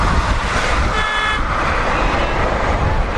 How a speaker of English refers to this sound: That was me honking at them. I don't appreciate when people do that on a corner. It's just asking to cause a car wreck.